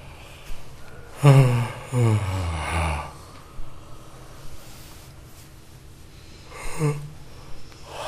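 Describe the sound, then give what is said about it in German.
A long, drawn-out groaning yawn on the exhale, voiced, done as a breathing exercise to let go on the out-breath, followed a few seconds later by a shorter, softer groan amid quiet breathing. “Genau, und das tun wir durch so eine Art Stöhnen, Gähnen.”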